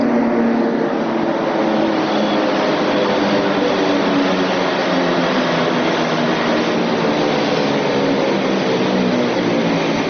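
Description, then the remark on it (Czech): A Beovoz commuter train of the Belgrade suburban railway pulls in at a platform of the brightly lit cutting of the future Beograd Centar station. Its steady rumble and humming drone fill the whole recording with no voices or pauses. “Kompozicija Beovoza, Beogradske prigradske železnice, pristala je na jedan od perona uređenog i jako osvetljenog prokopa buduće železničke stanice Beograd centar.”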